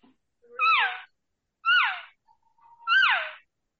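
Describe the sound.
A person imitates a cow's call using diaphragm calls, making three high, nasal, mewing cries that each slide downward in pitch, with short pauses between them and no talking.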